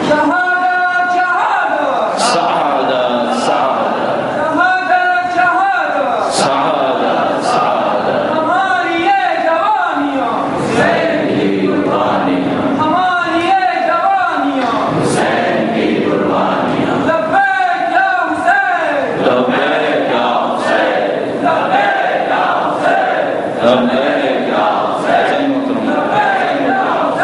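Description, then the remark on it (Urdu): A large crowd chants a slogan in unison, loud repeated phrases rising and falling in a steady rhythm, with a dense wash of many voices and a few sharp accents between the chants. “اس نعرے کے ساتھ میں آپ کی خدمت میں عرض کروں گا”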